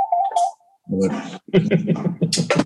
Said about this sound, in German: Das mal einmal Telefon hier ausmachen, sorry. Eigentlich habe ich das ausgemacht.